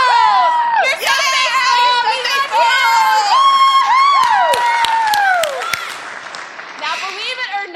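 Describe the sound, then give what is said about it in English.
A church audience loudly cheers in unison for its Children's Church and Lighthouse Church workers, many adult and children's voices shouting "You rock. You roll. You're very faithful" together in rising and falling sweeps of pitch, sustained throughout with a few sharp whoops. “We have a very special cheer for you, too.”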